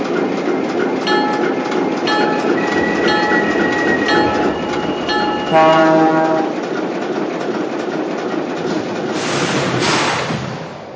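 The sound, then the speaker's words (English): Train number 275, running from Pittsburgh, rolls steadily along the rails on track number one with a continuous rumbling, rhythmic clatter, loud. A horn sounds briefly in the middle, and a hissing burst rises near the end. “Now running from Pittsburgh on track number one, train number 275.”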